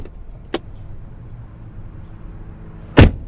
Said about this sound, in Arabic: ما قلنا بشويش على الباب؟ هيا بشويش على الباب.